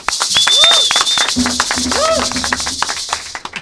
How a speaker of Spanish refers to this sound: ¡Aplauso!